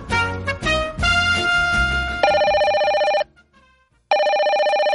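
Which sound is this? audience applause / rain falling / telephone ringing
telephone ringing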